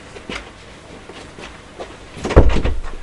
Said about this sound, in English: I'm just going to close the door, sorry.